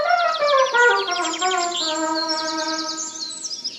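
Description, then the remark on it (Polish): Birds sing continuously in bushes in a bright, steady chorus of rapid trills and chirps, alongside a sustained whistling tone, with no voices. “Ptaki śpiewały po krzakach.”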